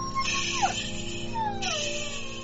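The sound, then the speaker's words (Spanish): An injured dog, not expected to survive, whimpers and howls in drawn-out, falling cries, two long wavering calls sliding downward over a steady low hum, moderately loud. “Es el perro de los Wharton. Oh, mierda. No va a sobrevivir.”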